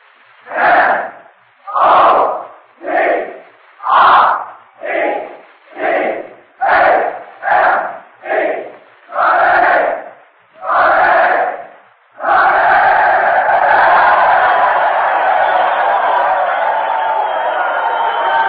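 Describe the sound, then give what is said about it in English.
A large group of young men, the men of the University of Notre Dame, shouts a rhythmic cheer in unison, a dozen punchy chanted bursts, then erupts into a sustained, loud roar of yelling and applause. “And here we go now with a cheer from the men of Notre Dame.”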